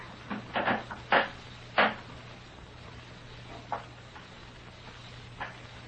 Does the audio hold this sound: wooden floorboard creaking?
yes